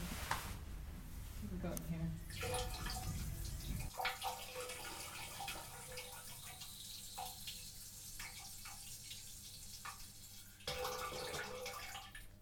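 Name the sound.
running water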